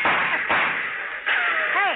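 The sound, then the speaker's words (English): Firecrackers lit with a match go off in a rough series of loud, crackling bursts about half a second apart, ending with a brief wavering, whistle-like tone. “Hey, who's lighting all these firecrackers?”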